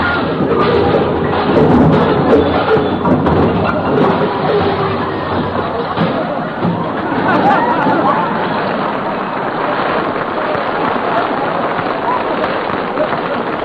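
A long, dense cascade of junk crashing out of an overstuffed hall closet: continuous clattering, banging and thudding objects tumbling one after another for over ten seconds, loud and busy throughout.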